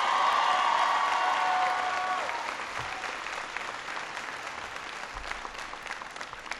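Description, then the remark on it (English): A crowd in Nevada applauds loudly after an introduction, dense clapping that stays strong for about two seconds before gradually thinning and fading, with a few cheers mixed in near the start. “I want everybody to give George a big round of applause for that introduction.”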